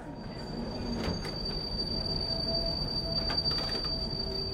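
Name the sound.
metro train running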